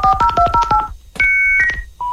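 A 28K dial-up modem connecting to the internet: a quick run of about eight touch-tone dialing beeps, then a short burst of steady paired electronic tones and a single held beep, with no voices.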